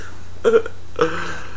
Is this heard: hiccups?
yes